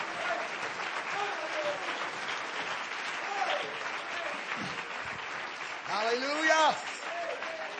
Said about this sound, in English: If you love him tonight, clap your hands unto him and bless his name.